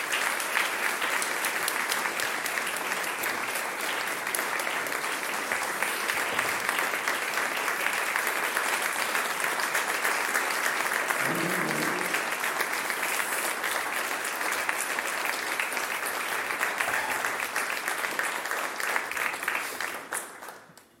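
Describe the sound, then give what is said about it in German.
Sustained audience applause at the Hörspielpreis der Kriegsblinden ceremony as two guests are led from the stage to their seats, a dense, steady clatter of many hands clapping at an even loudness for about twenty seconds before tapering off at the end. No one speaks over it. “Das ist Ihr Applaus.”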